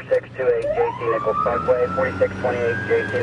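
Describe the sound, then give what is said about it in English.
The siren of a red and white boxy ambulance responding to a call in East Kansas City on a cloudy afternoon wails, its tone sweeping slowly upward and holding high, fairly loud, with a choppy pulsing layer and muffled voices or traffic noise underneath. “By the time the ambulance reaches her, the woman is awake.”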